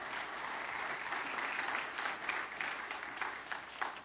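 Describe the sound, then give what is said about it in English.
People clap steadily for several seconds as a clap offering to the Lord, a dense, sustained wash of applause with a few sharper individual claps standing out near the end. “Everybody say, give the Lord a good clap offering, would you?”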